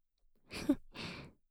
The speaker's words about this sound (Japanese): 思いっきり抱きしめたまま、気持ちいい吐息、ふうふうしてあげます。